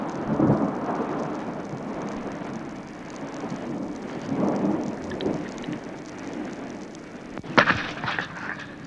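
Steady rain patters throughout in the Aosta Valley, where it has rained nonstop for three days, while low, distant thunder rumbles and rolls in waves, with a sharper crack near the end; no one speaks.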